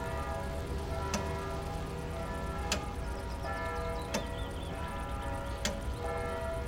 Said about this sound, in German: Konzentrieren Sie sich nun auf das Ticken der Uhr.